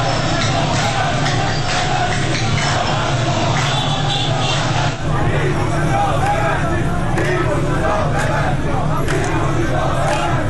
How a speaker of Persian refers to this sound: ویدیوهای منتشر شده از این تجمع در شبکه‌های اجتماعی نشان می‌دهد که گروهی از کسبه و مردم در خیابان‌ها با سر دادن شعار ببندید ببندید از صاحبان کسب و کارها و مغازه‌ها خواستند که به تجمع اعتراضی آنها بپیوندند.